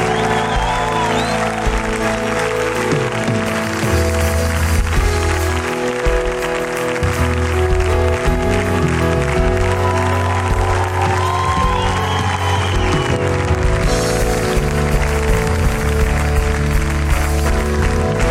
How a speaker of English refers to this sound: Come on, there may be one or two more people. Yes, come on, cheer, cheer, cheer. There's more.